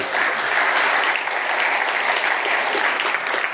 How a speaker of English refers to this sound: Let's give another round of applause for our worship team.